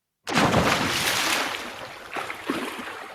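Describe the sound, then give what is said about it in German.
A sudden, loud splash as someone plunges into water, followed by a sustained rushing wash and a couple of smaller sloshing bursts as it settles. No voices. “Außer du wolltest noch was sagen zu Hamburg, dann war der nein, Sprung ins Wasser zu früh.”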